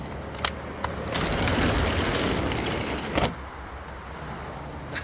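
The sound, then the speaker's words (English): The upward-sliding door of an ice cream truck converted into a mobile sound system rattles and rolls upward with a broad, rumbling scrape, punctuated by a few sharp clicks and a clunk as it settles, then a low hum remains. “Coming back around, and we're going to open up the truck. It's a sliding door. It goes up.”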